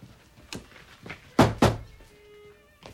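Knocking on bedroom doors with a lacrosse stick: a few soft taps, then two heavy thuds in quick succession, and one more knock at the end. The sounds are hollow and wooden, with no voices.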